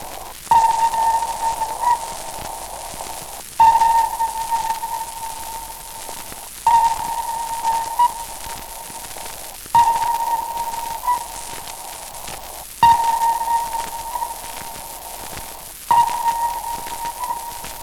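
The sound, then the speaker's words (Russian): Sonar returns from a submarine hull: a double echo from the bow and stern caused by the wake. Six steady mid-pitched tonal pulses, each opening with a sharp click, repeat about every three seconds over a constant hissy, rain-like background. “Слушайте двойное эхо, получаемое с носа из кормы подводной лодки за счет кильваторной струи.”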